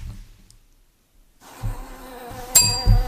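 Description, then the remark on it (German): Buzzing of Carniolan honeybees rises after a brief near-silence, a steady droning hum with a few louder close swells toward the end, heard alone without any talking. “Bienen. Ja, eben. Ja, das ist aber jetzt. Sicher. Ja, komm, okay. Die Karnika, die Honigbiene, die bei uns gerade.”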